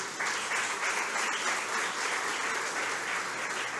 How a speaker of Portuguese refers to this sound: Inicia-se a composição da mesa, portanto, neste momento, convidamos para compor a mesa principal o excelentíssimo presidente dessa Casa de Leis, Carlos Alberto Espíndola. Uma salva de palmas.